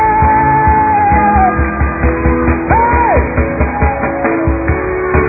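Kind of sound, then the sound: crowd, audience shouting and cheering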